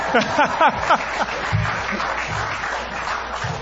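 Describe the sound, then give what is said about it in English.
One man claps alone, steadily for a few seconds, forming a dense, even wash of sound, with a brief voice heard at the very start. “Look at nobody's clapping. One guy claps.”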